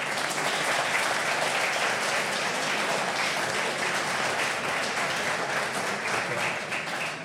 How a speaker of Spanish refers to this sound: La presidenta de la Asociación de Mujeres de Tiempo Propio, un aplauso para ella, por favor.